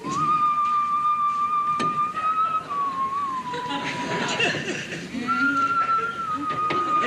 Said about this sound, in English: As George whistles absently, Archie pauses wide-eyed.